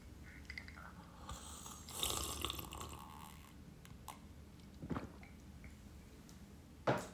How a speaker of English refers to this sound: Let me take a sip of my water.